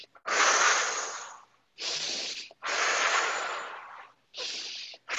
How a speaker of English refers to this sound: And we're going to be using the breath and be breathing like.